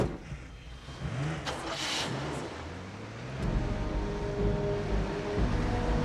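A car engine rumbles, then revs up as the car, its lights switched off, pulls away to follow Dr. Varnick's car, its steady hum growing louder and fuller over a few seconds with no voices.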